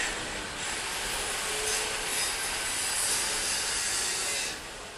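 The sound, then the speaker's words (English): Busy metalworking street, Workshop Street (Sharil Warsha), home to craftspeople doing steel cutting, copper welding and glass making: a steady, harsh wash of grinding and sawing noise with a bright metallic hiss, continuous for the whole stretch and easing slightly at the end. No one speaks. “You hear the sound of incredible activity. This is Workshop Street, Sharil Warsha, where you have all of these experts in steel cutting, in copper welding, in glass making.”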